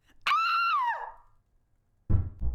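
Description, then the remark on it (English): A sharp, sustained scream rings out, then after a short silence come two heavy knocks on a door, low and thudding. “Someone knocked on the door.”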